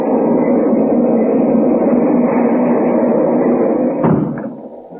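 A fast-moving passenger train rumbles steadily and continuously, with a sharp thud like a door near the end before the noise tapers off. No one speaks.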